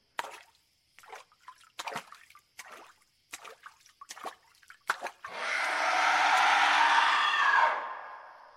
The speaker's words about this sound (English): Suddenly, some loud splashing. In the distance, towards the center of the lake, water bubbled.